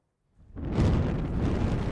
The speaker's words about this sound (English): On board the Silver Pit, now close into the giant platform, the crew rush for cover as the fireball, created by the explosion of the MCP-01 riser, rolls towards them.